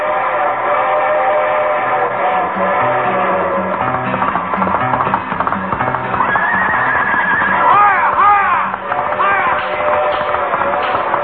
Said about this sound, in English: The train which is about to pass us on the left is the Westbound Limited for California. The Pony Express.